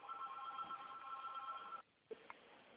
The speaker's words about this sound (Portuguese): É que meu outro telefone está tocando aqui e dá interferência aqui na minha.